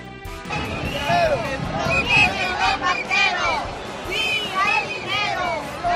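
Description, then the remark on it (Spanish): A dense crowd of thousands of pensioners protesting for decent pensions fills a street in Madrid, marching from Puerta del Sol toward the Congress of Deputies, with overlapping voices and shouts, a steady loud hubbub with rising and falling calls and occasional clattering noises throughout. “Este es el ambiente, el sonido, la banda sonora que tiene en estos momentos las calles de Madrid.”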